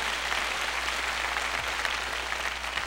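An audience at the Pavilion applauds a band, a dense, continuous wash of many hands clapping at an even loudness with no voices standing out.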